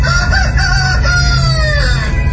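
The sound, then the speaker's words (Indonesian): A rooster crows in a long, drawn-out call lasting a couple of seconds, loud, at half past one in the morning while it is still dark, with a steady low rumble of background noise underneath and no talking. “Masih jam setengah dua pagi, kok ayamnya berkokok sih?”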